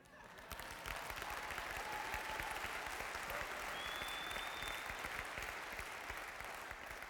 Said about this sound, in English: I would like to hear you really clap on that one.